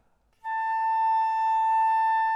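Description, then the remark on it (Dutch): After a brief silence, a flute sounds a single sustained A, held steady and clear at a constant volume with no other instruments or voices. “De fluit blaast daarna de A.”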